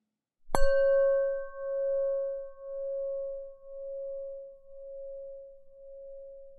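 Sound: bell tone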